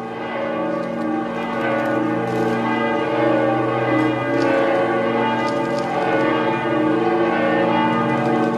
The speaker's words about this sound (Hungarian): Útunk ma kezdődik az elveszett néven ismert ősi harang hangjával, amely az Esculino domb tetejéről szól. Számtalan zarándokot vezetett évszázadokon át ez a harang, amely a remény záloga és az imára való felhívás, hangsúlyozta a litván bíboros.